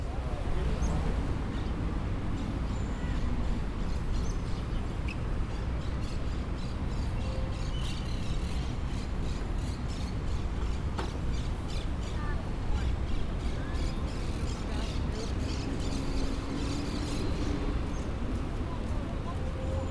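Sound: birds singing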